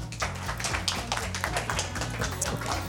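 A crowd applauds a show-dance ballerina with steady, dense, continuous clapping, fairly loud, while low, steady music plays underneath. No one speaks.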